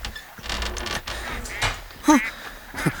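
A metal bolt with no lock clunks and scrapes back, then a door creaks open with a couple of short, rising groans from its hinges, with no talking.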